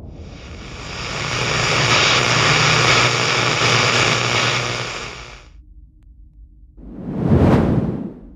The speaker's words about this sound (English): The whoosh of a containment chamber opening resounded through a cold, dead room, followed quickly by a second.